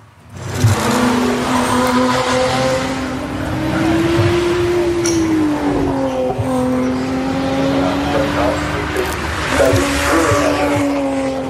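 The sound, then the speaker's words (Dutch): A V6 car engine revs loudly and steadily for about eleven seconds, its droning pitch swelling up, dipping and climbing again, with no voices over it. The car debuted at the Goodwood Festival of Speed. “Dit is niet de 4-cylinder, dit is volgens mij de V6 dan.”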